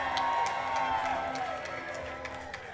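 A crowd claps and cheers steadily throughout, a dense wash of applause with scattered whoops, over a faint sustained tone underneath.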